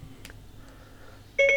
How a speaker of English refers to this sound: So first of all, I'm going to launch Blind Square GPS with Siri. And of course, I'm going to hold down the home button, wait for the beep, and just say open Blind Square.